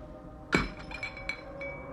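Scotch is poured from a crystal decanter into a glass: one sharp, bright glassy clink rings out, followed by a few softer, lighter taps and a faint lingering ring. No voices.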